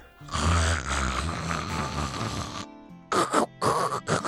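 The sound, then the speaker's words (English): A long, loud, rumbling snore from a woman sharing a town jail cell fills the first few seconds, then after a brief pause come several shorter, ragged snorting bursts, harsh. “I have bunked shoulder to shoulder with the drunken mates aboard the West's riverboats, but never in my days have I heard snoring like hers.”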